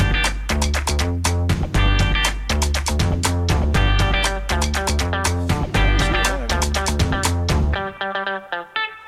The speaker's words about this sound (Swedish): Då kör vi vignett.